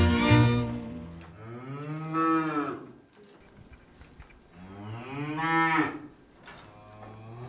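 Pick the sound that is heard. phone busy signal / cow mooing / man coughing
cow mooing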